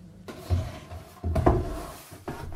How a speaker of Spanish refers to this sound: Luego, los operarios colocaron la tapa del ataúd.